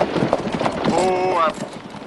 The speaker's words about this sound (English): the family's carriage pulls up in front of a hotel. Zeb pulls on the reins